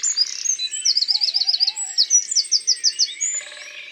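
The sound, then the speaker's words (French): A Eurasian wren, a tiny brown bird with an upright tail, sings not far away: a rapid, high-pitched, vigorous song of fast trills and sharp repeated notes, always the same phrase, loud and pouring out continuously for several seconds with other faint birds in the background. “il y a un troglodyte pas loin. C'est ce petit oiseau brun avec la queue dressée, verticale.”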